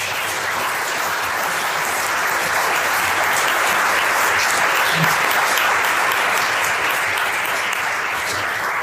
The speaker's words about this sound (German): Genau, ich kann da nochmal einen Applaus geben.